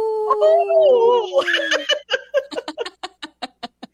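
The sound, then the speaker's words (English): On a Native Roots Radio broadcast, a person imitates a wolf howl with a wavering, drawn-out tone lasting almost two seconds, then dissolves into a run of rhythmic, breathy laughter that gradually quickens and fades. “your wolf howl is great”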